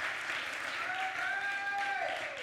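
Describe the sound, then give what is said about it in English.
A church crowd gives the Lord a hand clap of praise before sitting down, clapping steadily and continuously in a dense wash of many hands applauding at once, with a faint sustained vocal tone rising over it and then sliding down. “Give the Lord a hand clap of praise before you sit down.”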